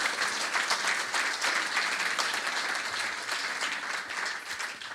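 Steady applause from an audience: many hands clapping at once in a dense, crackling wash that holds at an even, fairly loud level for the whole stretch, with no voices over it.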